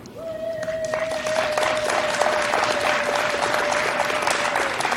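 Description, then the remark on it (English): Loud, dense applause fills the whole clip while a woman's single high-pitched cheer is held almost steadily from start to finish above the clapping. “By the way, I love the one random woman in the background that's acting like she's at a high school cheer competition.”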